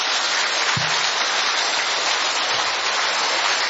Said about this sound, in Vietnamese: Anh chị em thay bằng lời đồng ý đó thì bằng một tràng pháo tay được không ạ?